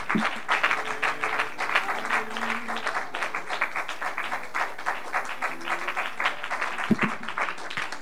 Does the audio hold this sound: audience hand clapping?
yes